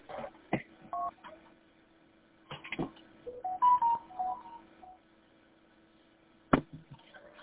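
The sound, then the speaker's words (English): A single short touch-tone beep from pressing the pound key on a phone keypad, followed by several brief electronic tones and clicks over a faint steady hum on a phone line. “And I think what I ended up doing is like I hit pound.”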